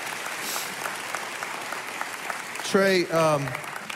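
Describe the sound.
A steady wash of audience applause at an event in Georgia as three people come up to speak, dense and continuous throughout, with a short burst of voice breaking in over the clapping near the end.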